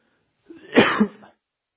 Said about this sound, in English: excuse me. Man, I feel like I'm going to start coughing here. I'm sorry.